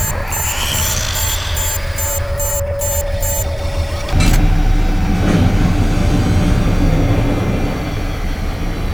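A heavy spacecraft engine rumbles steadily and loudly, a deep droning roar that suddenly surges stronger about halfway through and keeps running with no voices.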